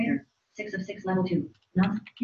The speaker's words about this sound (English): Narrator, six of six, level two. So that's the screen reader. So that's what you're hearing right now. So I'm using Narrator to kind of speak out what's on the screen.